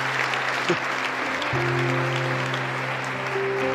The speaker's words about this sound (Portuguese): Quantos amam ver pessoas sendo batizadas? Podemos aplaudir a Jesus?